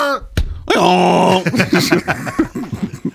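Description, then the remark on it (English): A person's voice imitates a donkey's bray: a loud, strained, sustained groan followed by a choppy run of rapid, seesawing hee-haw bursts, with no words spoken. “Yeah, I remember, and this is what a donkey says.”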